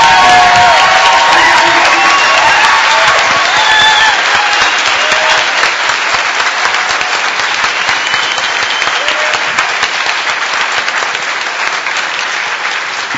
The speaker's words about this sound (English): I think we need to give this guy a big round of applause for doing one heck of a good job.